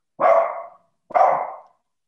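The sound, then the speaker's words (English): A dog barks twice during an online meeting, two loud, full barks about a second apart, each with a quick onset and a fading tail, with no talking. “I can hear your dog.”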